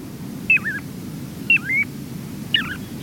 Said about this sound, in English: Listen to the mellow voices of piping plovers. These pale gray shorebirds winter along our southeastern coasts, trying to coexist with humans along our beaches has made life precarious for the tiny plovers.